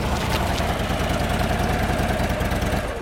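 A road motorcycle engine idles at the Grzędy forester's lodge in Biebrza National Park, Poland, a steady, throbbing low rumble with a rapid pulsing beat that holds evenly throughout, with no voices.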